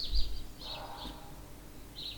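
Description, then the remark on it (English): Soft, high bird chirps come in short bursts every half second or so against a quiet outdoor background, like songbirds calling in the morning. “In the sounds of birds filling the morning air.”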